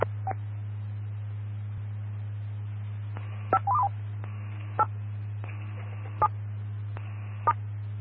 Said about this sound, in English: Guys, let's move it to formal mode, and let's go ahead and hit the tones to put this in weather mode as well. That, moving to formal mode, moving to a formal mode. Stand by for tones.